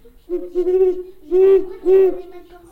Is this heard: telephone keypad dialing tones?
no